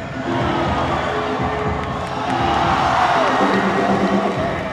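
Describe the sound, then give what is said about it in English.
A dense crowd in a gym cheers and shouts continuously at a breakdance battle, the final battle between two crews, the Lions of Zion and the Floor Brats; a loud, steady roar of many voices with whoops and high yells rising and swelling midway as a dancer performs a Superman windmill, no single voice standing out. “wowing the crowd with a Superman windmill, a move too complex to describe.”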